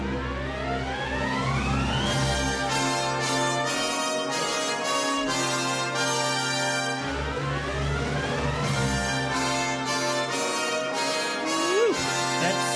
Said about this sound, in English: That's some doorbell.